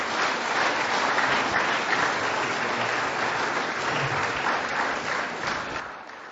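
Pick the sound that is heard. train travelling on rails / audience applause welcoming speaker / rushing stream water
audience applause welcoming speaker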